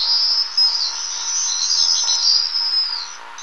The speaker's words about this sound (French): Alors le Martinet, lui, il chasse en groupe, hein, et quand il chasse, on les entend crier, très fort, tous ensemble.